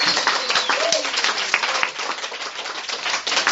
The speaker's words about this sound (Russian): Давайте закроем это собрание вот аплодисментами. Мы молодцы.